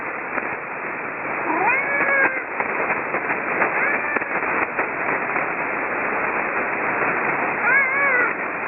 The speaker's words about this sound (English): cat's got something to say here.